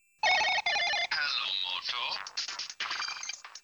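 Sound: cell phone ringing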